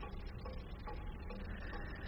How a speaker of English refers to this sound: See, he was buried next to this bomb and could hear it ticking. That's funny, really. Tick, tock, tick, tock. Every tick a heart attack, every tock a skid mark.